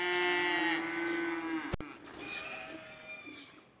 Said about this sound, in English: Dairy cows.